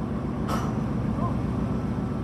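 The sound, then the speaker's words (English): A single sharp metallic bang rings out early on over a steady low industrial rumble as huge truck-sized metal shipping containers, close to 1,700 of them, are loaded and unloaded at a port at night, heard aboard a 170-meter CMA-CGM container freighter. “The banging you can hear in the background is the loading and unloading of huge metal containers, each one the size of a truck.”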